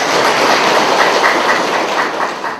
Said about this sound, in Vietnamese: Giỏi, cho tràng pháo tay đi.